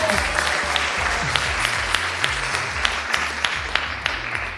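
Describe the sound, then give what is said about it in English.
A live audience at the 35th Miami Book Fair in Miami applauds steadily for several seconds, a dense wash of many hands clapping at once with a few sharper claps standing out, and no voices. “You can applaud for that so we can hear you.”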